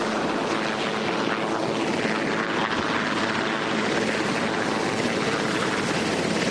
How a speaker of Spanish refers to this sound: Así sonaba el helicóptero Marine One que ha llevado a Donald Trump y a la primera dama, ex primera dama Melania, y a varios empleados de su administración hasta la base aérea de Andrews.